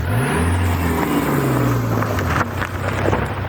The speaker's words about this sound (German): Und vor allem kann man eben mit dem Auto bis dort rauffahren.